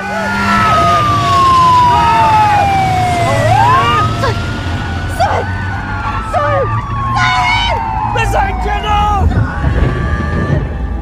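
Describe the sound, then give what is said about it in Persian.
A police car siren wails loudly as the police chase a motorcyclist, its pitch sweeping down and back up in long glides, over engine rumble and busy street noise with scattered sharp clatters. “پلیس دنبال موتور سوار میره.”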